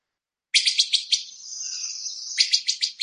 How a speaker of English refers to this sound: And I also want to play you a call that some of you will hear of the wood thrush. It's some people call it the machine gun rattle.